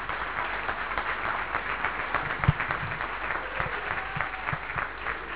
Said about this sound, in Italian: pertanto ringraziamo per il telebridge, ti mando un applauso dalla platea, più di quello non posso.